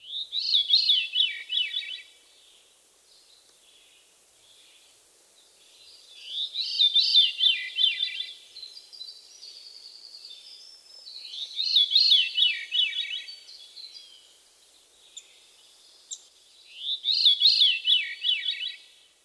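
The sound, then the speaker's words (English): A veery sings four times, each phrase a breezy, flute-like spiral tumbling downward in pitch, separated by pauses of a few seconds, clear with no other sounds. “The Veery's haunting song consists of a series of downward spiraling flute-like notes.”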